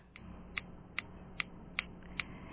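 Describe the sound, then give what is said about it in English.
Large handbells, each about the size of a fish bucket, big and heavy, ring in a steady rhythm, about one bright strike every half second, each ring overlapping a sustained high shimmer and a low hum. One bell is held in each hand and swung back and forth and over the ringer's head. No one speaks. “she has one of these bells in each hand, and she's ringing them back and forth and over her head”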